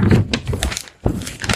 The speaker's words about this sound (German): Jetzt zerknülle ich mal ein Blatt.